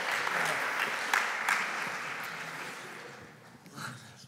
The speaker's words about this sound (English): Can we give this gentleman a round of applause?